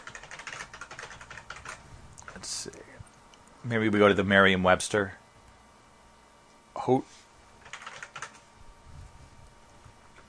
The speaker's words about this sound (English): I'm just resting my microphone on my chest here. I'm like typing with both hands here.